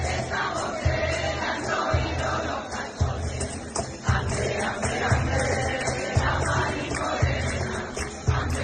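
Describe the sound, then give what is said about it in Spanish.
PP and Vox parliamentarians sing Christmas carols together in the Andalusian Parliament after its last session of 2024, backed by hand-clapping (palmas) and a steady, booming flamenco cajón beat landing roughly once per second. President Juanma Moreno claps and councillor Antonio Sanz plays the cajón. The singing is lively, loud and reverberant. “tocando el cajón flamenco, que es la percusión que estabas escuchando”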